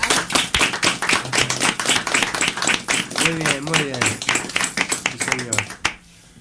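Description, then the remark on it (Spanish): An audience on the Radio Nicosia programme applauds first-time participants, a dense, steady patter of many hands clapping for around six seconds, with voices audible over it before the clapping cuts off. “Un aplauso otra vez para ellos.”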